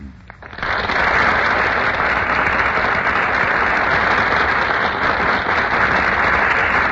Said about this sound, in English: that burst of applause is for Madeline Carroll and Melvin Douglas, who have just made their entrance on our Gulf Theater stage